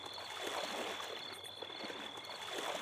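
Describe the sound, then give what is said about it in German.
Water laps and swirls softly as someone eases slowly into a swimming pool, a steady sloshing with gentle trickles, no voices, and a faint high tone running underneath. “Da schleicht eine Gestalt zum Schwimmbecken. Sie lässt sich langsam ins Wasser gleiten.”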